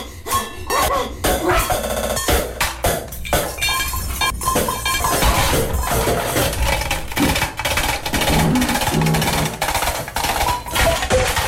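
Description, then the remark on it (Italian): Plates and bottles smash against a wall in a rapid, loud series of sharp crashes and shattering, with bits of glass clinking between impacts and no one speaking. “me personalmente piace di più rompere piatti o bottiglie lanciandole contro le pareti.”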